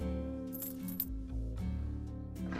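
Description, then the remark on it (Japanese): A few bright metallic jingles of a hotel room key being shaken, short clinking bursts over a low steady background hum. “ほら、部屋の鍵。”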